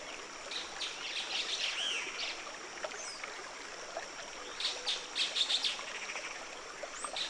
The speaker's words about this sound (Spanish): En el chirrido del Luisito, el canto del saltapared feliz, en las preguntas del saltador gris mesoamericano, y en el canto ruidoso del saltador cabeza negra.